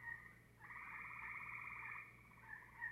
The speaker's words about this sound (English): In this recording of a chorus of gray tree frogs, listen for aggressive chirps interspersed among normal advertisement calls.